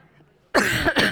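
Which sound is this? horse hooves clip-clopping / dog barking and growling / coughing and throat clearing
coughing and throat clearing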